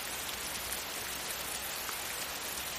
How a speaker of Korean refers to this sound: 아직도 비가 내리고 있었는데 눈에 보일 만큼 커다란 빗방울이 정작 한 방울씩 땅에 떨어지고 있었다.